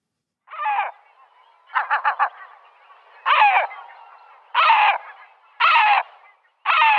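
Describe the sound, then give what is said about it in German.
A gull calls aggressively in a series of six harsh, loud squawks spaced about a second apart, one breaking into a rapid stuttering burst, with no voices. “Welche Möwenart ist hier zu hören?”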